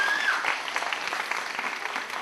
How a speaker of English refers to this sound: Give him a big round of applause as he takes his seat.